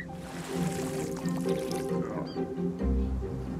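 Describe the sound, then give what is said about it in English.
A camel bends its neck and drinks cool water, slurping noisily through its mouth, a continuous wet gurgling and sucking that runs steadily for a few seconds, with a deeper, heavier gulp near the end. “You can hear the water being slurped up through the mouth.”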